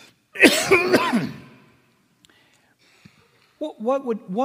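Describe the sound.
A loud bout of harsh coughing and throat clearing lasting about a second, followed by a short silence before a man starts talking again.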